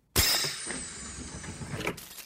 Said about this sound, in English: Doc, our footsteps are causing that noise. Why aren't you crackling, Mac?